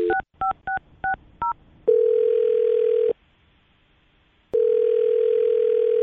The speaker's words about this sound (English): All right, I'm going to dial his phone right now, okay? Okay. All right, here we go.